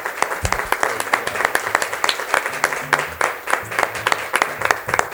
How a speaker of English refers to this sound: Let's all give the Lord a hand clap of praise this morning.